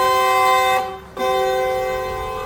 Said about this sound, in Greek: Η κόρνα που ακούτε είναι από αυτό το αυτοκίνητο το μακρόστινο με το μαύρο που είναι. Θα μου πεις γιατί μας βάζεις την κόρνα.